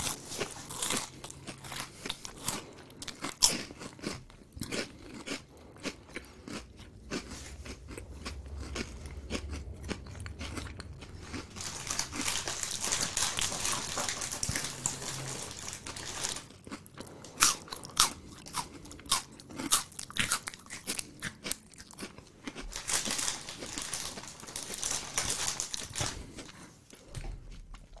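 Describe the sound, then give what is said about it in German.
Loud crunching and chewing of crisp food right at the microphone, with dense crackling bites and wet mouth sounds continuing steadily for the whole stretch, no talking, during a minute of chewing into the microphone. “Eine Minute kauen wir jetzt nur vom Mikrofon.”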